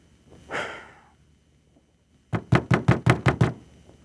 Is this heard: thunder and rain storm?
no